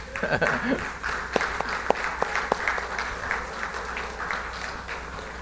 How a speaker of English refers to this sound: Does anybody know what today is? Grandparents' Day. If you're a grandparent, stand up. We'll give you a round of applause.